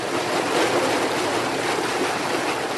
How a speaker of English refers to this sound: The firefighters are clustered around two square plastic pools about 3 feet high, held up by metal frames. Another truck backs up, and suddenly thousands of gallons of water start gushing into one of the pools.